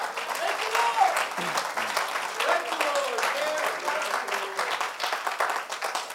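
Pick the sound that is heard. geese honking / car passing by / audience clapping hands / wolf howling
audience clapping hands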